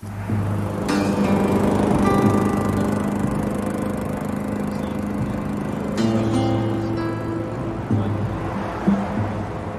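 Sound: lawn mower engine running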